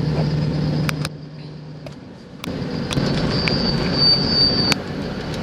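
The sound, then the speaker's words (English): Steady low rumble of road noise from inside a moving car, recorded while testing a recorder, with a faint high-pitched whine and a few sharp clicks over it; no one is talking. “But I'm testing this thing and it works good in a car.”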